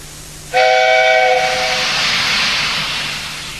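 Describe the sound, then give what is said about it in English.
The steam engine Douglas, pulling a train of heavy coal cars, lets out a loud whistle blast lasting about a second as he steams by on the island of Sodor. The whistle fades into a steady rush of hissing steam as he passes. No one speaks. “One day, Edward was talking to Trevor when Douglas steamed by. He was pulling a train of heavy coal cars.”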